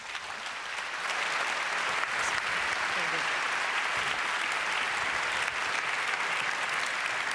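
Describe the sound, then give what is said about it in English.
Sustained audience applause welcoming the next two speakers of a talk, a dense steady wash of many hands clapping at an even loudness from start to finish, with no voices standing out. “Applause, please.”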